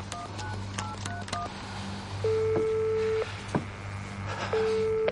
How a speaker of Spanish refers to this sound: Espera. Descuelga y marca.